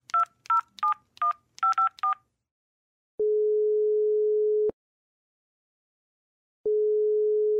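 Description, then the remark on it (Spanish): A telephone number is keyed in as a quick run of about eight bright touch-tone beeps, followed by a pause and then long, steady low ringing tones on the line, as a call is placed to the Patrulla Ciudadana. “Llamemos juntas.”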